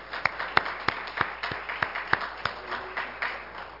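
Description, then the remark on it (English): An audience claps in praise, with sharp rhythmic claps landing roughly every third of a second above a dense wash of scattered hand claps, sustained and moderately loud throughout. “Let's give the Lord a hand clap of praise this morning.”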